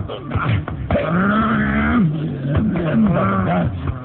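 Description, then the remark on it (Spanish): A voice performs furious werewolf growls: loud, rough, drawn-out snarls whose low pitch rises and falls, running almost continuously for several seconds with only brief breaks and no speech. “Y sus tareos se convierten en gruñidos furiosos.”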